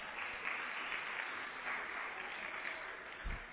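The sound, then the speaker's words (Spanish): A crowd applauds to welcome National Electoral Institute electoral councillor Norma Irene de la Cruz Magaña, a dense wash of many hands clapping at once that holds an even, fairly loud level for several seconds with no voices rising above it. “¡Fuertes los aplausos!”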